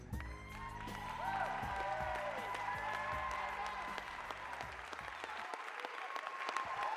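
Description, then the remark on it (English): An audience claps steadily and loudly for several seconds for all the presenters from four weeks, a dense wash of applause with a low musical drone sustained beneath it before the bass drops away near the end. “Come on, let's give everybody a hand clap, all the presenters from all 4 weeks.”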